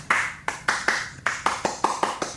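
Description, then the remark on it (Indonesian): A brisk run of about ten sharp hand claps in the rhythm of the Indonesian Pramuka scout clap, fairly loud, with a few quick doubled claps between evenly spaced beats and no talking. “Kayak Tepuk Pramuka.”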